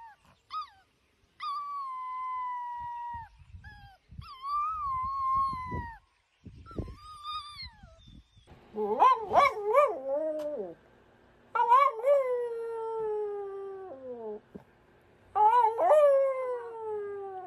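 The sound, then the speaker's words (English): A small Cavalier dog howls in a series of high, wavering drawn-out cries, some rising and falling in pitch, with brief pauses and faint whimpers between them, fairly loud. “They also howl, which I think is extremely cute.”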